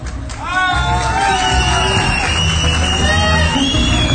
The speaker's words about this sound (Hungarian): Egyre csökkenő lelkesedéssel tapsolnak.